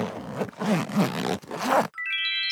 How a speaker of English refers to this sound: Explorers, it's time to check inside our belief backpack. This is where we keep the treasures we've discovered on our journeys. Are you ready to see what we've packed? Zip it open with me.